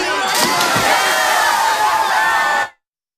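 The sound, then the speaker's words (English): A loud party crowd cheers and whoops together as someone jumps into a pool fully dressed, a sustained burst of overlapping high voices, steady for under three seconds before cutting off abruptly into silence. “Into a pool fully dressed, everyone cheers them on and jumps in too.”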